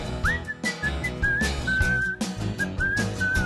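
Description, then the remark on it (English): Someone whistles a bright, bouncy melody in a pop novelty song about milk, over a full backing track with drums and bass, the whistled notes clear and prominent throughout. “People like whistling.”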